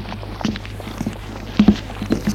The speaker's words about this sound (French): Et il traverse la rue. Il n'y a pas de voiture qui circule, ni passant. Le bruit de leurs pas résonne.